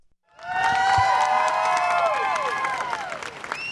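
A large crowd outside the county courthouse in Bellefonte, Pennsylvania, erupts in loud cheering and applause as guilty verdicts in the Sandusky case are announced, many overlapping shouts and whoops rising at once and holding steady, heard outdoors.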